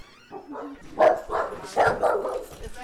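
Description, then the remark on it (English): Rescue dogs in a Dog Bless foster home in West Virginia, including shelter dogs, a mother dog and her one-week-old puppies, bark in a quick, uneven series of sharp yaps and woofs, moderately loud, with a few softer whimpering sounds mixed in and no talking. “In addition to the 3 rescue dogs they already own, this month they are housing 6 dogs from the shelter, including one mama dog and her 1-week-old puppies.”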